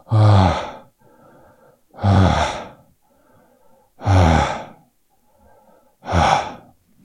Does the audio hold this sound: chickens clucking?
no